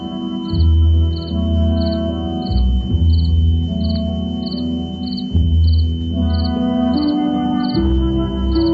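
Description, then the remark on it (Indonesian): Crickets chirp in a steady, evenly spaced rhythm, high and clear, over a low droning musical background that swells and dips throughout. “Terdengar bunyi jangkrik menggentariku.”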